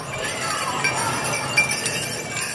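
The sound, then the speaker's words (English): Many small bells on dancers' pants and skirts, festooned with pink and yellow feathers, jingle steadily, a dense shimmering clatter of bright metallic clinks with a few sharper accents, moving together as if shaken in rhythm with motion. “People of all ages wear intricately beaded moccasins, fringed capes with green, purple, and blue designs, leather dresses and shirts, pants and skirts festooned with pink and yellow feathers and bells. Lots of bells.”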